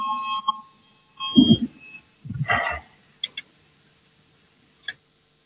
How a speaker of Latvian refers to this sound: Lūdzu, zvanu balsosim par 8. Juridiskās komisijas priekšlikumu. Lūdzu, balsosim.